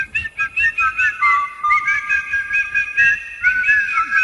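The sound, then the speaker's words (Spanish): A person whistles an imitation of a goldfinch, a steady stream of bright warbling trills and quick chirping runs, continuous for several seconds with no talking. “Hay uno que silba muy bien.”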